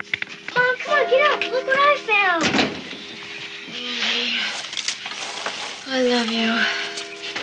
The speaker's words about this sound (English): Andy runs through the front door and into Stevie's bedroom, where she's asleep.